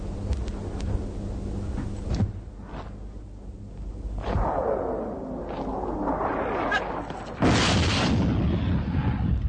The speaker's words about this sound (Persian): بازم خیز روی زمین و انفجار نزدیک ماشین.